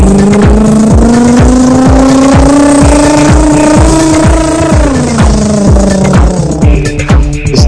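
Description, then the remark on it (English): A motorcycle engine throbs steadily and loudly, revving with a slight rise in pitch before dropping away as it drives past. “That was Byron on the motorcycle.”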